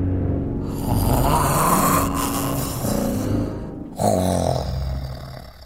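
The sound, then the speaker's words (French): Loud, rumbling snoring of a bear falling asleep, in two long drawn-out breaths, each a harsh, low rattling drone that swells and fades, with a brief pause between them and no talking. “Ours se love, se pelotonne et bruyamment s'endort avec Souris, Lapin, Renard et Sanglier qui, eux, ne dorment plus du tout.”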